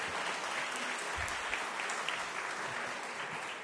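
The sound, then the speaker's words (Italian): An audience claps steadily at the start of an evening gathering, a dense, continuous patter of many hands at even volume, with no voices standing out above it. “Bentrovati tutti, possiamo incominciare e direi potremmo farci un applauso, farci, per nonostante il tempo siamo qui.”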